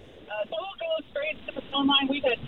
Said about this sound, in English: Tim, can you turn down your radio? We can hear your radio.